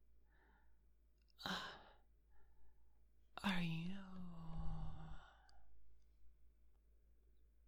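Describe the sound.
A sharp, breathy exhale, then a long, heavy, groaning sigh. A quiet, whispery voice speaks briefly against a low background hum.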